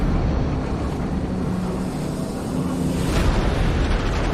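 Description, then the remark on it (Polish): A naval mine explodes in a harbor, tearing a hole in a battleship: a deep, sustained explosive rumble rolls on for several seconds, heavy in the low end like an underwater blast, with a brief brighter surge near the end and no voices. “Panika, że coś zaraz może wybuchnąć, trwała dość krótko.”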